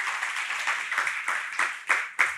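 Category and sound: crowd, audience applauding volunteers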